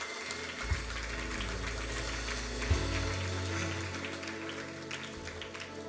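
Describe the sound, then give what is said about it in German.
An audience applauds God in a sustained, steady burst of clapping for several seconds, with a low instrumental hum underneath and no speech. “Komm mal, lass uns Gott nochmal einen fetten Applaus geben.”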